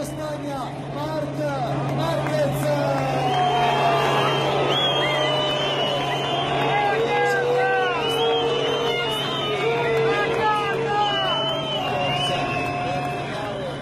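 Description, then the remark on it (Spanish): A large crowd of fans at Misano Adriatico boos Marc Márquez on the podium after his win, a dense wash of many overlapping voices jeering and shouting, loud and sustained throughout with a steady low hum underneath. “Bueno, ahí lo tenéis, un abucheo generalizado que desde luego desde aquí condenamos y que, bueno, pues viene de aquellos lodos, los lodos de aquel pique con Valentino Rossi de hace 2 temporadas, que Rossi no ha terminado de aplacar como debiera.”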